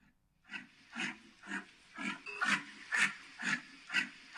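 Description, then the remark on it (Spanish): A yak gives a steady series of about eight deep, pig-like grunts, evenly spaced roughly twice a second, fairly loud with no talking. “Mira, pero si es un cerdo. Es el ruido que hace Jack.”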